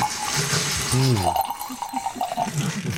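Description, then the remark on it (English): Natural wine splashes and trickles into a glass in a cool wine cellar with a soft, steady hiss, then a short gurgling tone partway through, with faint murmured voices in the background. “Down in the cool depths of his cellar, Stefano poured me some of his natural wine.”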